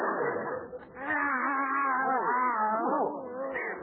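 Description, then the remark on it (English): Skid Row tomcats in Los Angeles yowling in long, wavering, drawn-out cries that rise and fall and overlap, carrying on continuously for several seconds at a fairly loud level with no talking. “These are Skid Row tomcats.”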